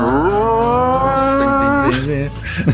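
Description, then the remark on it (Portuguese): A loud, sustained blast on a berrante cattle horn, one long bellowing tone that holds steady for nearly two seconds, then breaks off into a rougher, fading tail. “Imagina já o berrante, o padre de berrante.”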